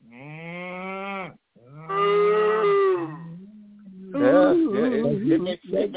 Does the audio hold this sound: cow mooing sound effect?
yes